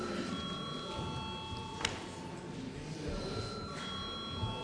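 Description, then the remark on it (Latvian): A parliamentary voting bell rings steadily for several seconds, a sustained electric tone over a low hum, with faint murmuring and shuffling in the background, rung before deputies vote on passing a bill in its third, final reading. “Lūdzu zvanu.”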